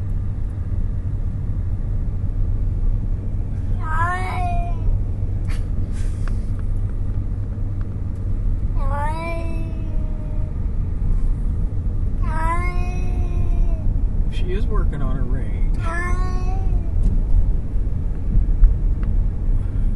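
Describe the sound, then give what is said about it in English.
A female cat growls and yowls in four drawn-out, falling cries, with short breathy hisses between them, all over a steady low engine-like rumble. “Ooh, it's hissing too.”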